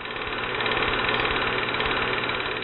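A film projector runs with a steady mechanical whir and a rapid, even clatter throughout, fairly loud and unchanging, with no voices.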